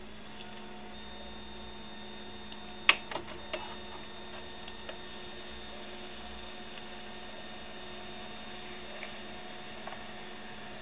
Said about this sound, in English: I'll press the print button, put some paper in the printer. This is our old HP LaserJet 6L print. It's so musical.